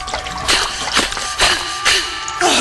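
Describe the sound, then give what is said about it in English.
Repeated splashes in murky sewer water, about five in a steady rhythm roughly half a second apart, as someone wades through it in a sewer. Fairly loud, with no talking. “Oh, sweet lords of sewage, what the hell in f***? Oh, what did I do to deserve this? I don't even want to know what's floating in this water.”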